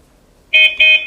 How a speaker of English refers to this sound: Okay, so one beep, a tap. Okay, so now he wants two beeps.